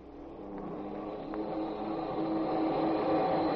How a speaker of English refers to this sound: We hear the frantic whine of the motors as they draw the huge ship toward the water.